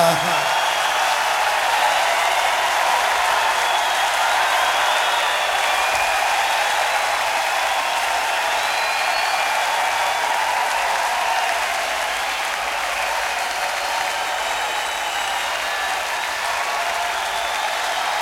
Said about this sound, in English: This old place is closing up. And so let's give this old place a big round of applause, because it's done us all a real good. Big round for Brooklyn and happy fucking New Year.